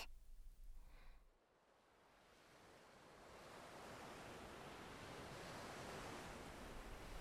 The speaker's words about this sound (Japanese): ここは海。波の音に身を委ねて。